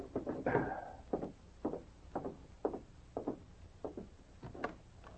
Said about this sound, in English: Sergeant Preston sat in the office of the police barracks reading, with King lying quietly beside him. The dog rose as he heard a timid knock on the door.